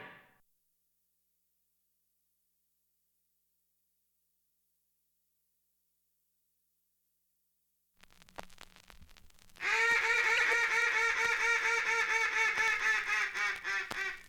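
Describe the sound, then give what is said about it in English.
A Falk's duck call blown in a loud, rapid series of nasal quacks, imitating a mallard, starting after a few seconds of silence and continuing steadily to the end. “You've just heard a mallard duck call blown on a Falk's duck call”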